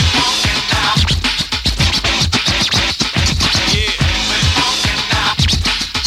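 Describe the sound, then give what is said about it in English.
Rapid DJ turntable scratching cuts over a thumping hip-hop beat, with quick rhythmic bursts of scratched sound sliding up and down in pitch, loud and continuous with no voices. “Them cuts is real, real dope.”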